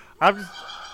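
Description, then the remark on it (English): A single short rooster crow bursts out loud, a harsh harmonic call that drops in pitch and cuts off within half a second, leaving a faint hum behind. “Do you know how many rooster crows that's going to be? I hope you got a lot of rooster crows.”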